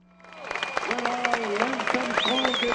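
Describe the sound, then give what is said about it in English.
A huge crowd of tens of thousands of fans at the Tour de France finish in Paris applauds champion Lance Armstrong, dense clapping swelling up from quiet and holding steady, mixed with cheering voices and a few whistles rising above the roar. “Applause from tens of thousands of Frenchmen, Americans, and fans from around the world for the champion from Texas.”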